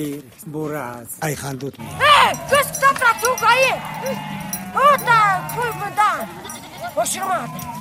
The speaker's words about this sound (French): Alors que des dizaines de moutons et de chèvres dévalent le flanc de la montagne et regagnent leur enclos,